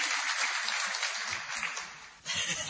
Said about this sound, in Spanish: Muchas gracias, vale, un aplauso.